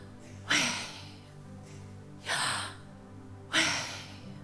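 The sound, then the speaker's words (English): A voice makes three slow, airy breaths, sighing inhales and exhales spaced a second or two apart, fairly loud over a soft, steady low musical drone, imitating the name Yahweh spoken as pure breath without closing the mouth. “So by saying Yahweh, it literally mirrors the act of breathing, like inhaling and exhaling.”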